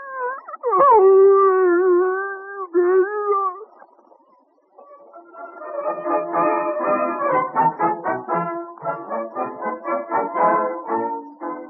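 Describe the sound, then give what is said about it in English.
A dog, Rags, being taught to talk by young Alexander Graham Bell, lets out a long, wavering howl that bends up and down, then breaks into a run of choppy, talk-like yowls and grumbles, fairly loud with no other voices. “His first scientific experiment, teaching his dog to talk.”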